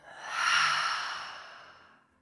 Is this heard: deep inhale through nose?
yes